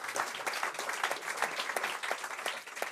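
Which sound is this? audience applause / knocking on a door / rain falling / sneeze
audience applause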